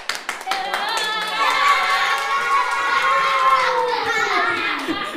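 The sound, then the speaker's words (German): A group of children cheer and shout loudly together, with scattered claps at the start, their high voices swelling into a sustained joyful roar that lasts several seconds. “Jubel in der Gruppe”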